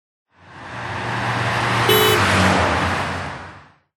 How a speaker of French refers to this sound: Nous, on voyage en voiture.